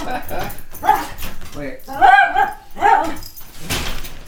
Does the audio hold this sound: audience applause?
no